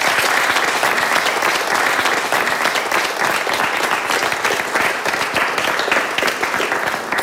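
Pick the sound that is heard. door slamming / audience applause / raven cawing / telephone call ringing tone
audience applause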